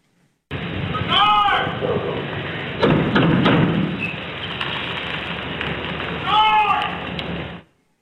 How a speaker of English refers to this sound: So you can hear the victims in the back there banging and screaming. And clearly that was what the 911 operator was told.